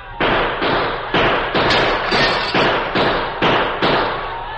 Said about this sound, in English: They won't expect gunfire from here. We'll shoot over their heads. That may hold them for a little while. Here they are. Shoot high, Tonto.